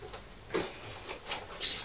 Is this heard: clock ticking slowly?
yes